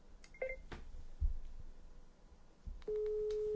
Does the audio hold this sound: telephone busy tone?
yes